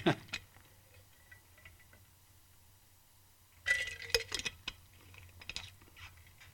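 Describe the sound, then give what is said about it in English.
Soft clicks and a glass of water clinking as it is picked up for a drink, then a brief cluster of handling noises and light knocks before it is set down, over a low steady hum. “Excuse me. Let me grab a drink of water.”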